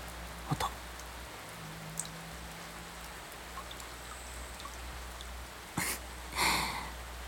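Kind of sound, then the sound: nature, rain falling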